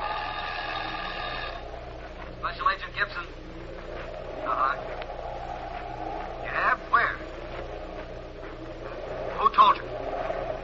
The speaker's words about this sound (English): The phone over here is ringing.